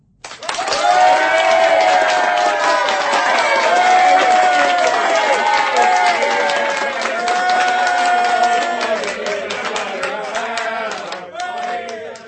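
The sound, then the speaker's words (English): A dense crowd of students cheering and shouting at once, many overlapping voices sustained loudly throughout, with the roar easing slightly toward the end. “Everyone was moving, shouting, gesticulating. A dense crowd of cheering students surged round us.”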